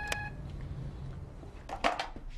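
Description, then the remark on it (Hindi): A doorbell gives one short, bright electronic ring that fades quickly, followed by a soft low hum and a brief burst of clattering noise near the end. “मैंने घंटी बजा दी।”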